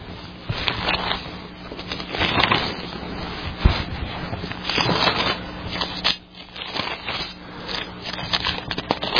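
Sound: bible pages being turned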